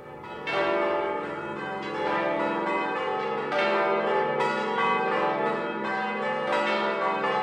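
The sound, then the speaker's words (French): Church bells ring in a dense, overlapping peal, strikes tumbling over one another in an intricate pattern with rich lingering overtones, loud and continuous throughout with no voices. “Voilà, c'est très dur à suivre, mais les danseurs essayent d'avoir un mouvement pour chaque cloche, un mouvement pour chaque son entendu, un mouvement pour chaque impact.”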